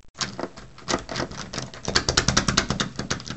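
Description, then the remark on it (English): A locked, jammed door is rattled hard: a quick, uneven run of sharp clattering knocks that grows more insistent and rhythmic toward the end, with no voices. “Guys, the door's locked?”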